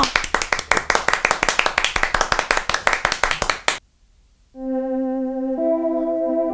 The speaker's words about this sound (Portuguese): Uma salva de palmas pra ela!